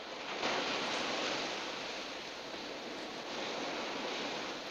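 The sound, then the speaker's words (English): A steady wash of water, like small waves lapping in shallow sea water, with a soft continuous hiss that swells slightly and never stops, in shallow water off wet sand where cars have pulled up. No voices are heard. “Lon and Santiago perform sharp U-turns and pull their cars up a short distance from each other in the shallow waters.”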